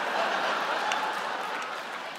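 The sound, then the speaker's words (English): A crowd claps steadily for a couple of seconds, a dense, even wash of applause at moderate volume that holds without letting up, with no talking over it. “No, don't clap for that.”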